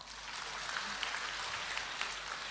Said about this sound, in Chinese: 鼓掌